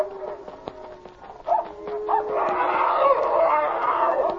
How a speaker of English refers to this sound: Goodness, that huge dog will kill Checo.